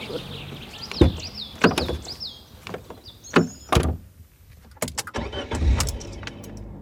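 A few solid thumps like car doors shutting, then a low engine rumble as a car starts to pull away, leaving Kalwaria, with birds chirping faintly in the background.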